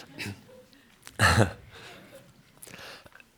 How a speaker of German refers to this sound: Vielleicht haben sie ein bisschen husten wie ich, aber ich muss jetzt schnell mein Getränk da holen.